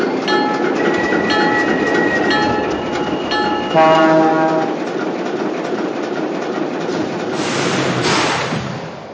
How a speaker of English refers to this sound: Now arriving for Chicago on track number 2, train number 6, the Lake Cities.